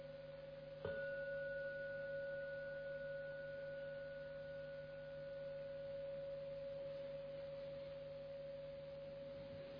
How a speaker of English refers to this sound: So with mindfulness and clear comprehension, you hear the sound of the bell, and with mindfulness and clear comprehension, you open the eyes when you're ready.